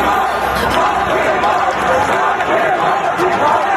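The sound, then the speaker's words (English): A large crowd boos the president loudly and without letup, many voices merging into one dense, sustained roar that fills the whole few seconds with no pauses. “Lori Lightfoot might get booed in this town right now if she was throwing out the first pitch at Wrigley Field.”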